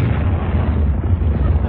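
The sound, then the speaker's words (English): A handful of distress rockets dropped down a ship's funnel explode, blowing soot: a loud, muffled blast that becomes a continuous heavy rumbling roar, dense, with no clear separate bangs and no voices. “I dropped a handful of distress rockets down the top of that big chimney thing you've got sticking up through your part of the ship”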